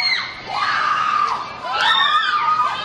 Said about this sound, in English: Gosh. Screaming girls. Okay.